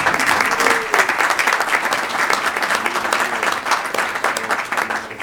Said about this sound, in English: Well, we can give a round of applause.